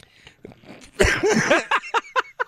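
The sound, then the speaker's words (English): A loud, harsh burst of coughing breaks out, followed by a string of four or five shorter, sharp coughs in quick succession, with no one talking. “He's got to cough it out.”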